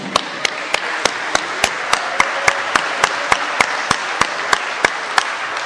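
An audience applauds a speaker steadily, a dense wash of clapping throughout, with one sharp clap repeating at an even, quick pace above the crowd.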